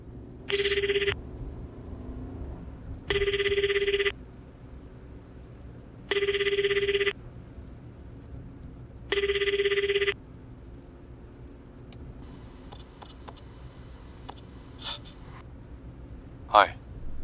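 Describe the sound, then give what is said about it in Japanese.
Ringback tone of an outgoing call placed from a mobile phone, dialed from its phone book after a different SIM card was inserted: four evenly spaced electronic rings, each about a second long, with steady pauses between, over a faint background hum. “そして電話帳を操作し電話をかける。”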